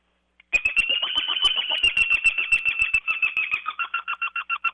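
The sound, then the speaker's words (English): A loud, rapid series of high, laughing notes from a pileated woodpecker locator call, used in turkey hunting to locate gobbling turkeys, running about four seconds and breaking into slower, separate pulses at the end. No one speaks. “And then this is the pleated woodpecker, and it works good all during the day.”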